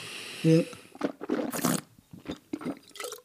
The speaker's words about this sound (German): Du schmatzt aber auch heute. Entschuldigung, es ist so lecker.